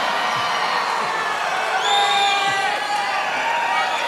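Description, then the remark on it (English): A large crowd cheers loudly and steadily, with high whoops and shrill shouts rising above the dense roar for the full few seconds. “Ah, yes, the quiet, conservative, opera kind of crowd, yes.”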